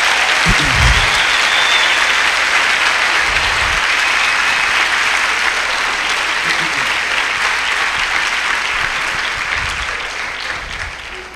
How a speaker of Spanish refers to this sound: Mire, dele bien ese aplauso al Señor, hermano. Ese aplauso es para el Señor.